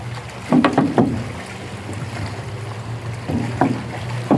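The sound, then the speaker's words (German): Sea waves wash and splash in short bursts over a constant broad rushing noise, with a steady low hum underneath, as if heard from aboard a boat in the wind. “Ja, aber ich weiß nicht, ob man das alles versteht, jetzt wegen dem Rauschen und den Wellen und dem Meer.”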